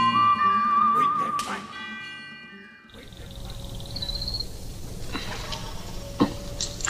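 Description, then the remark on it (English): A whistled western film theme melody with a wavering, vibrato-like tone rings out over a sustained musical backing for a few seconds, then gives way to noisier ambient sounds and a thin high tone. “Whistling was really important because it immediately made the tunes memorable.”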